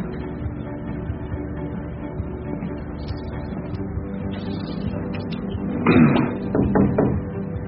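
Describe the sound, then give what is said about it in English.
Several firm knocks on a door come near the end after a stretch of low, steady room hum, with a short pause between the raps. “Knock, knock, kid.”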